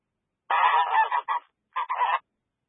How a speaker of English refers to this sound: Those are geese.